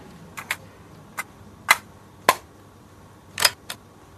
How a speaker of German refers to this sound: Diese Geräusche werden viele noch kennen. Knopf drücken, Kassette reinschieben, Musik an und los.